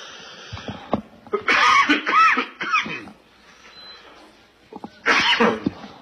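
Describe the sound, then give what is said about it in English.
Two loud sneezes a few seconds apart, the first a burst of two or three quick convulsive sneezes, the second a single sharp one, with quiet background hum between. “Welcome to allergy season.”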